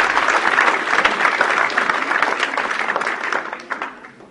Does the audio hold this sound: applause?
yes